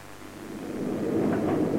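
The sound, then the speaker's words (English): Steady rain hisses continuously, swelling slightly louder over the short stretch, with a deep low rumble beneath it like thunder. No one speaks. “It's raining.”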